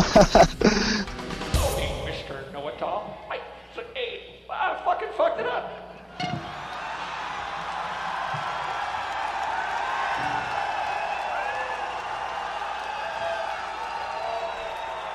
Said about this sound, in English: he stops the track completely, and the people start yelling, "You suck."